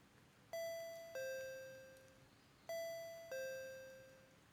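intercom doorbell ringing

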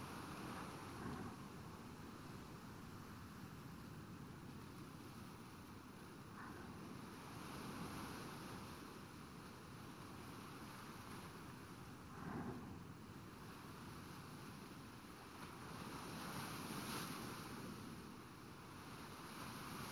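ocean waves

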